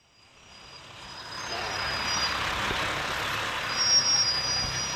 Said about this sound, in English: It's 8:05 in the morning, and a school bus stops on North Fremont Avenue, and kids pile on.